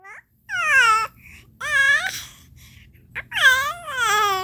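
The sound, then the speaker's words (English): A baby girl babbles and coos to herself on a bed in a few drawn-out, sing-song bursts with short pauses between, fairly clear, with no adult talking. “While I'm running around, my baby is talking to herself on the bed.”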